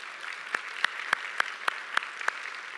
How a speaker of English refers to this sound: I have the privilege of having my dad here in the back here. Would you give my dad and my mom a big round of applause?